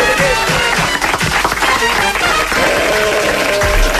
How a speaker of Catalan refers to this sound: Aplaudiments.